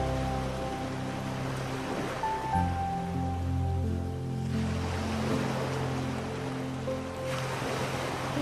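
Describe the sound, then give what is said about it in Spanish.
Steady, washing sea waves roll in continuously beneath soft, sustained musical tones, with gentle swells in the surf and no one speaking. “Cierra tus ojos y siente y escucha las olas del mar.”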